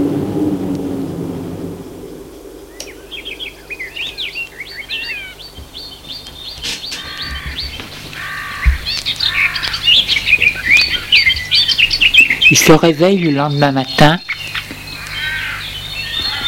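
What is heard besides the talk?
birds singing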